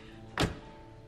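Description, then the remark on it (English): A single solid, fairly loud thunk of a car's driver's door closing as someone hurries in, standing alone against a quiet background with no voices. “Mike hurries to the driver's door and gets in.”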